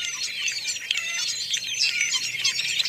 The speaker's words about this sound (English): Sometimes other fruit-eating birds, such as these starlings, accompany them. The species often travel together while searching for food.